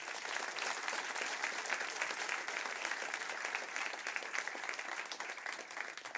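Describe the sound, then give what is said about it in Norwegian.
Steady, dense audience applause at an evening event about Oddvar Brå, welcoming author Thor Gotaas, who wrote a book about him; many hands clapping at an even, sustained loudness with no pause and no voices over it. “Og en stor applaus til mannen som har skrevet en bok om legenden, nemlig Thor Gotaas.”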